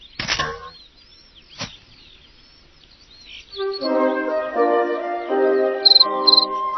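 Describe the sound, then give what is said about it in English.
A couple of sharp clicks, then a steady, buzzy cricket chirping rises up and carries on, made by a big cricket rubbing its wings together, with two brief high-pitched trills near the end. No one speaks. “Welcome, chirped a big cricket, rubbing his wings together.”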